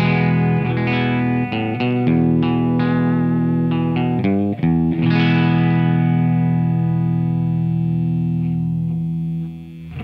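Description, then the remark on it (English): A loud electric guitar played clean through a Music Man amp on its own, without pedals or the amp's reverb: a run of picked chords and notes early on, then a long ringing chord that sustains and slowly fades, with no voices. “Well, before we get into pedals, do me a favor, let's just hear your amp just as is.”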